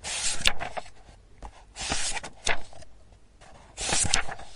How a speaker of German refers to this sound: Jetzt pausiere ich kurz, bis der Lastwagen hier durchgekommen ist.